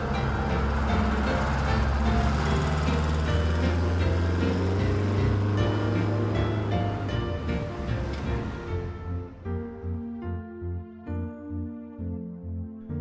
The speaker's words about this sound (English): Wow, that was the last of the buses.